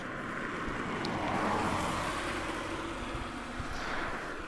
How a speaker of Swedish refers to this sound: Du kör just förbi en bil här, och man märker nog också att den kör där, att det inte finns det mycket utrymme på sidorna om den för någon att gå eller att cykla.